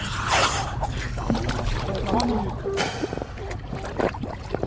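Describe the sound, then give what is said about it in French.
Busy dive-boat deck ambience before a dive, with water lapping and splashing against the hull, a low engine rumble underneath, and fellow divers talking and moving, some dressing and positioning cables. “Les sons à ce moment-là sont encore assez présents parce qu'on est en phase préparatoire. Donc les camarades sur le bateau sont parfois encore en train de s'habiller, sont parfois en train de positionner les câbles.”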